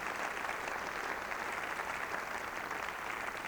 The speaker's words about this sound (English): Let's give a round of applause and appreciation